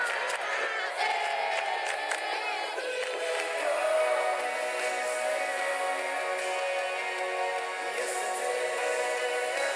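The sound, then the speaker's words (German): A lively group of about 30 people in a circle singing together, enthusiastically clapping and dancing, with whoops running through the sustained, energetic chorus for the whole stretch. “Und dann sind einfach in dem Kreis 30 Leute, die völlig begeistert klatschen und singen und tanzen.”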